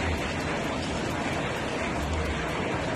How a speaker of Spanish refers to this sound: Así sonaba el granizo que caía en el llano de la Torre, cerca de Yeste.